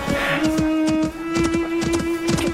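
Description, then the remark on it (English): A baby donkey's hooves clopping in a quick, uneven series of hollow beats, fairly loud, with a steady low hum running underneath and no voices. “goodness mine, the donkey”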